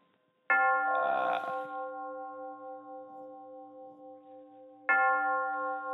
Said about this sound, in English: Of course, here we have the bell. You want to ring the bell? No, you ring it. Don't go up with it now. They'll think there's a fire or something.